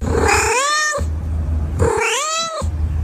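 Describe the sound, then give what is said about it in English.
A cat meows twice, fairly loud, each call a drawn-out, wavering cry with a short pause between them and no voices around. “Cookie is the cat, by the way.”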